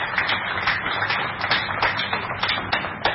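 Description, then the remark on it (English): A crowd applauds steadily for about three seconds, a dense, crackling wash of many hands clapping at once with no voices over it. “We should all applaud the excellence here for being with us today.”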